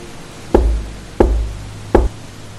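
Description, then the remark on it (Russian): Three heavy knocks on a wooden castle door by a vampire hunter, evenly spaced about two-thirds of a second apart, each a deep, booming thud, with no voices; it is raining, with dark clouds and occasional lightning. “Охотник на вампиров с неприлично большим подбородком подошел к дверям и постучал.”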